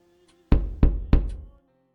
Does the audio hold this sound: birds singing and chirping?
no